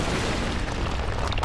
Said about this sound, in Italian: Eravamo a valle quando il rospo starnutì. Sentì la terra vibrare. Udì un rumore di tuono.